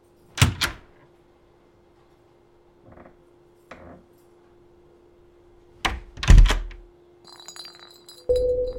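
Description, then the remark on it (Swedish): A hotel cleaner knocks on the door of room 2005 at the Park Lane Hilton, London, at 9 a.m. on 15 January 2018: two sharp knocks, a quiet pause with faint thuds and a low steady hum, then another cluster of three firm, loud knocks. “Klockan har precis slagit 9 på morgonen när en av hotellets städare knackar på dörren till rum nummer 2005.”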